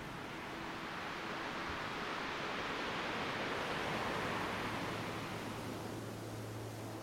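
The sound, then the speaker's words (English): A steady, full wash of ocean surf roars continuously, waves rolling in without pause and no distinct individual crashes standing out. No voices are present. “Watching the rolling and crashing waves off to one side.”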